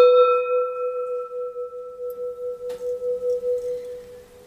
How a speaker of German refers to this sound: Wir gongen wieder.